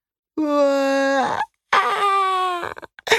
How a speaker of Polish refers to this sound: Rozryczał się siedzący na biodrze mały Franek.